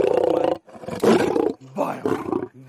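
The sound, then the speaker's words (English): A captive big cat in South Africa roars at feeding time in three loud, rumbling bursts separated by brief pauses, each a deep, throaty growl rich in harmonics, with no talking over it. “You all know what a Harley Davidson motorcycle sounds like. This is the South African version.”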